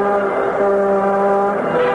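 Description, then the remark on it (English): A loud, steady motor truck horn blares in one sustained, brassy blast lasting a couple of seconds, with no voices. “America, the motor truck express.”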